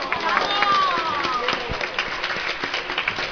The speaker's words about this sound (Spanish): Yo antes que nada quisiera agradecer a todos y a todos los que han venido, que nada, una fuerte ovación para vosotros que habéis venido. ¡Venga, arriba Pincho Sur!